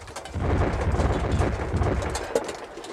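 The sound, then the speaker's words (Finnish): The soldiers' own artillery battery firing, heard as a continuous deep, rolling rumble of overlapping booms with one sharper crack near the end, no voices. “Ylös, pojat, oma patteri se on.”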